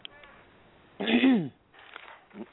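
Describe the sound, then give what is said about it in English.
Someone clears their throat once in a short, rough, half-second burst, loud over a thin, phone-like line, followed by faint murmuring. “I'll be clearing your throat.”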